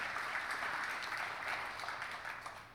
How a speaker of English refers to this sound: So can we just clap it up for pastor a little bit?